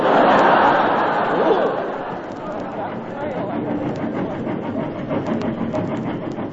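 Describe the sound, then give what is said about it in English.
A snowplow train barrels down the line through the night, a loud, steady roar with quick rhythmic clacking of wheels, while indistinct voices murmur beneath the noise. “And through the night the snowplow train was racing down the line.”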